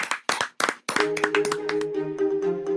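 A brief round of applause: a handful of sharp, loud claps in quick succession, then steady musical tones ring out beneath a few more scattered claps.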